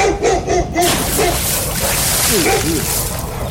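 water splashing

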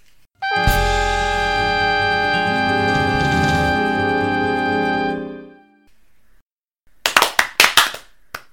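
hands clapping

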